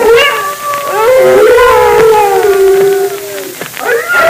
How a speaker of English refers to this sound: Those wolves have smelled us and they're gathering. They found us. They're circling in closer and closer.